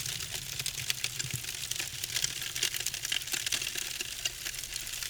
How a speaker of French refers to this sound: Nous bénissons et brûlons tout ce que tu es censé retrouver dans ta nouvelle demeure. Maison et voiture en carton, argent en papier.